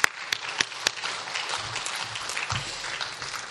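A crowd applauds steadily for a few seconds, a dense wash of overlapping claps with a few sharper individual claps standing out near the start, at moderate volume with no voices, giving a pregame round of applause to a speaker being introduced.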